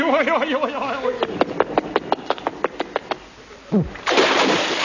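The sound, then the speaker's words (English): A loud splash of a man landing in the sea bursts in near the end, right after a falling whistle-like slide, following wobbling electronic tones and a quick run of evenly spaced knocks. “Good shot. He landed right in the sea.”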